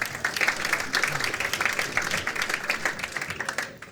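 Steady audience applause of many hands clapping in a dense, crackling wash, fairly loud throughout and tapering off at the very end.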